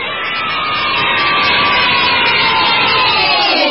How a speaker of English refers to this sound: and the crowd goes wild